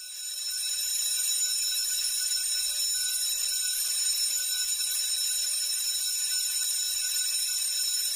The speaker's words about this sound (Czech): U centru sela postoji škola u kojoj su nedavno prve generacije obilježile 40 godina od male mature. Priču, još se školska zvona čuju, pripremio je Slađani Remić.